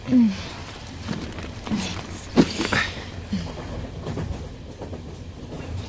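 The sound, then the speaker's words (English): Steady low rumble of a moving train to Newcastle heard from inside a carriage, with occasional clunks and rattles rising briefly above the constant mechanical drone. “So let's listen now to what happened on the train to Newcastle.”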